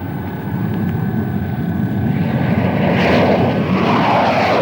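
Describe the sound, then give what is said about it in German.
A loud, steady drone of two military aircraft engines swells gradually as the planes emerge below the cloud edge and fly directly at a submarine among icebergs, the broad roar thickening and growing stronger as they approach, with a faint high whine running through it. “Kommt näher! Da sind sie! Unter dem Wolkenrand! Fliegen uns direkt an!”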